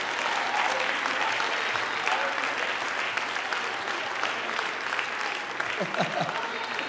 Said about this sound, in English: Go ahead and clap your hands and rejoice.